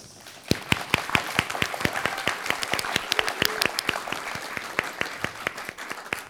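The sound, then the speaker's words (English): Steady applause from a fairly small audience welcoming guests on stage, quick overlapping hand claps forming a dense, continuous patter at moderate volume, with no voices heard. “They were greeted with rapturous applause by the audience.”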